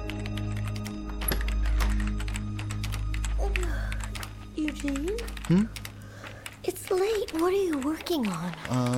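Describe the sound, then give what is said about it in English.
Rapid, steady keyboard typing clicks away as someone types out a list for the whole stretch, with a low hum underneath early on and a voice talking over the keystrokes in the second half. “I'm typing out a list of things I want to talk about with my father the next time I see him.”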